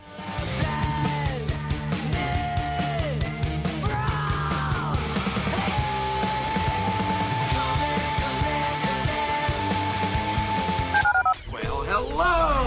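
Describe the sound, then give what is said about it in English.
Telephone keypad dialing tones sound amid a loud, dense musical jingle with swooping pitches and shouted voices, promoting a sports radio show's listener call-in line, and a steady tone holds for several seconds before the mix cuts off. “Dial the phone.”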